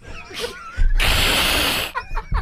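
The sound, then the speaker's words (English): A short meowing cry with rising, wavering tones, then a loud burst of harsh mechanical whirring like a drill or ratchet that drowns everything before fading back to fainter tonal cries. “Meow.”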